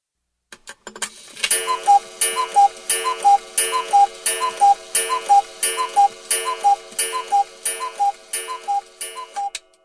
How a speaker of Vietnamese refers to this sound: Đồng hồ treo trên tường đang tích tắc đều đặn chỉ thời gian.